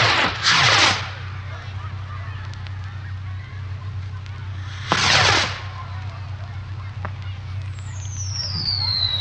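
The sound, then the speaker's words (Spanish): Two loud volleys of rapid, crackling bangs from a lit firework castle, several seconds apart, over a steady low rumble, with a thin rising whistle near the end. “cohetes. Él hace unos castillos bonitos y al encenderlos truenan así.”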